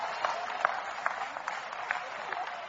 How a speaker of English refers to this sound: Oh, come on, clap anyhow. Praise God.